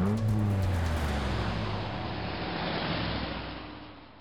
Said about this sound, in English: Then the door slammed shut. The engine revved, and the police car sped away down the streets of Atlanta.